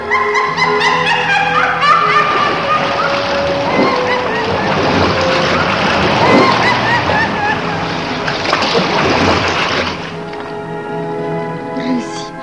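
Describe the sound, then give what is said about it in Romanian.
Steady swirling water and splashing waves fill the scene, churning continuously beneath layered tonal voices or music, with the rushing wash fading slightly toward the end. “Scufundă din vârtejurile adânci de apă.”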